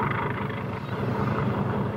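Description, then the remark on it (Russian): A helicopter descending over a ship lying adrift, its rotor chopping in a fast steady beat over a loud, continuous engine roar that fills the whole two seconds without letup. “Эх, как бы он нам не задел за мачты.”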